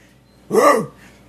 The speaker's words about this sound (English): That was a dog barking. Yeah, it was.